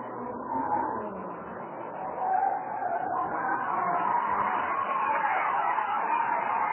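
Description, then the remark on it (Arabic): A car skids with tires squealing as it drifts, swung right and left, a continuous screech mixed with engine roar that holds steady and fairly loud for several seconds, with no voices. “ويريد أن يرضي الشيطان ويعصي الرحمن ويتباهى أمام الإخوان والزملاء والخلان، يبرم السيارة يمين شمال إلى أن يأتي اليوم”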